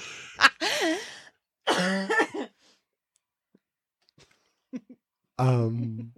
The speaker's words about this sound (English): Gosh, is that the way you want your voice to sound? Cough real quick for me, please.